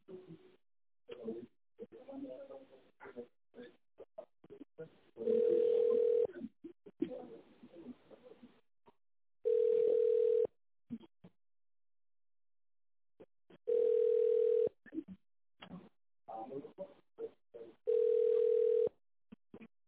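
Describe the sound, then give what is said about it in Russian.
A telephone ringback tone plays while on hold during a call to the company Elida N: four steady, mid-pitched beeps about a second long, spaced roughly four seconds apart, alternating with stretches of muffled voices talking. “Вы позвонили в компанию «Элида Н». Наберите добавочный номер или дождитесь ответа оператора.”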